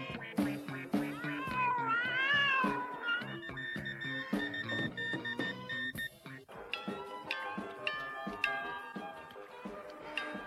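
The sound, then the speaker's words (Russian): Several cats meow and yowl, their drawn-out, wavering cries overlapping in loud bursts, with a few sharp clicks scattered between the calls. “Трусливые коты так и остались на берегу, не решившись побороться с сильным течением и ледяной водой.”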